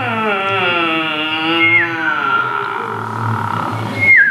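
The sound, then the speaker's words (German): A sustained, wavering whistled melody with gliding pitch, punctuated by a couple of short bright chirps like a songbird, fairly loud with no talking. “Und ein Vöglein pfeift mir ein Lied.”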